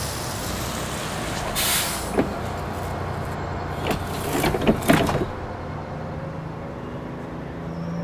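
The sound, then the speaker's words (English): A number 8 bus arrives at a bus stop and idles as bursts of air-brake hiss sound, followed by a cluster of sharp pneumatic hisses and thumps as its doors open, over a steady engine rumble. “The bus is coming. Let's get on it.”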